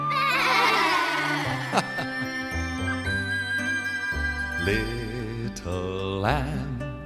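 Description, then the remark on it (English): Several voices imitate little baby sheep with quavering "baa" bleats in short bursts, layered over steady, bright background music with tinkling tones. “Now let's all pretend to be the little baby sheep who are happy to be together, okay? Okay. Can you say, baa?”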